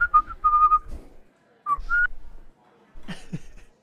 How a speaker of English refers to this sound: I was trying to think of like the jauntiest whistle I could do. All it takes is just like,